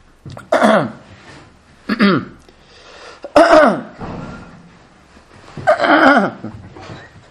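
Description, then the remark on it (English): A voice imitates a man's repeated throat clearing and coughing during prayer in a synagogue, four loud, rough bursts spaced a second or two apart, each with a harsh vocal rasp. “And you're sitting next to the guy trying to daven, and every second he's clearing his throat and coughing and scratching”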